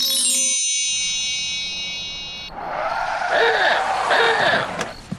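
A steady ringing tone fades out, then a car rolls up and skids to a stop with a harsh, noisy screech of tires that swells and cuts off near the end.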